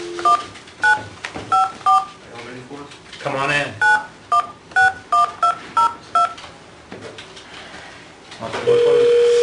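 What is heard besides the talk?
telephone keypad dialing tones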